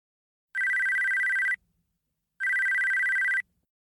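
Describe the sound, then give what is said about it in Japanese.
A mobile phone ringtone rings in two loud, steady bursts of about a second each, separated by a short pause, with a bright electronic tone and no voices. “あ、携帯が鳴ってる。”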